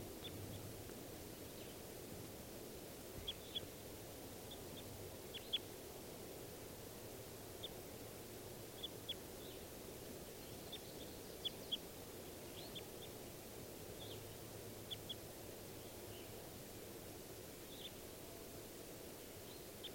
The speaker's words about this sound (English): There are at least three birds in the trees. 391, another male and a female. And I think this is the female at the top of the tree that's calling. Stop. So recording those wild birds again.